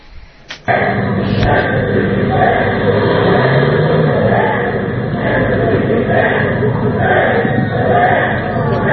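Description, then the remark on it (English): A large crowd shouts and chants outdoors outside City Hall during a City Council meeting, a dense, sustained roar of many voices with rising surges, starting abruptly after a brief moment of quieter noise. “So the gang has reached City Hall, and they were shouting outside.”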